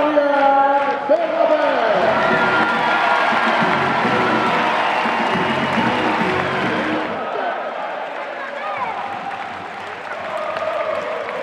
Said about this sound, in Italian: L'applauso più grande per il campione olimpico Adrian Bernabé, con tanto di oro al collo.